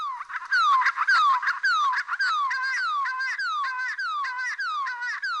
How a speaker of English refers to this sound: I've been working on this endangered species for 20, 25 years now, but I still get a real buzz when I play that call and I get babblers respond to it and come in, because they're just such a comical little bird.